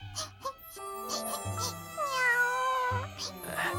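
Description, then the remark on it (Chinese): A little kitten cries because a greedy pig took the sausages, in a string of plaintive, whimpering meows, fairly loud, with one long wavering wail in the middle, over soft tinkling background music. “圣诞老公公解决完了长颈鹿和鸵鸟抢围巾的事后，接着又听见了小花猫呜呜的哭声。”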